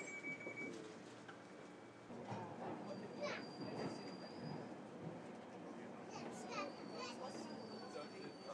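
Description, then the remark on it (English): A London Underground train terminating at High Barnet pulls away from a busy station, next stop Charing Cross, a steady low rumble with thin metallic squeals rising above it, while a crowd of voices chatters. “Train is about to depart now.”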